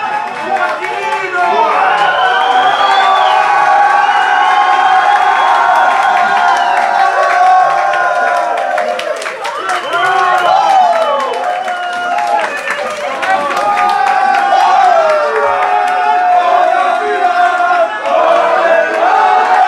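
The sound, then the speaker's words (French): A large crowd of France national football team supporters watching a match broadcast roars and cheers at the final whistle, loud and sustained, with overlapping shouts, whistles and scattered clapping rising and falling over about twenty seconds. “Et enfin, le coup de sifflet final arrive et c'est réellement une grande délivrance pour tous les supporters de l'équipe de France.”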